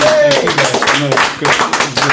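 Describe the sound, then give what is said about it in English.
A dense, steady wash of audience applause for a guest at the end of an interview, many hands clapping at once without a distinct rhythm, with voices talking and calling out over it throughout. “I pay for the applause.”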